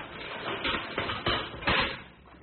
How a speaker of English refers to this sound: Open the cage door